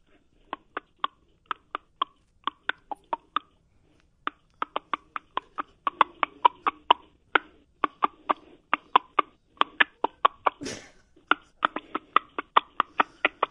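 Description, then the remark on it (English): A voice imitates a chicken with rapid mouth clucks, dozens of sharp tongue clicks in uneven bursts with brief pauses, steady and fairly loud, with no talking over them. “No, you cluck like a chicken”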